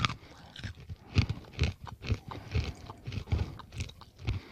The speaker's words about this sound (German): Ich muss gerade mal eine Vergleichsmandel essen, normale.